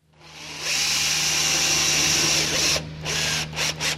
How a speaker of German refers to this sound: Es wurde eifrig gebohrt, gehämmert und Rasen gemäht in den vergangenen Tagen im Stadion La Pontaise im Norden von Lausanne.